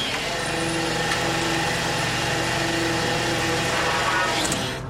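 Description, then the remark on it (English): The engine of a small green fishing boat at sea, twelve miles east of Gloucester, Massachusetts, drones steadily, a low rumbling hum with a constant pitch and no pauses, heard alone without any voices. “Twelve miles east of Gloucester, Massachusetts, the small green fishing boat Dolores Louise is the only vessel as far as the eye can see.”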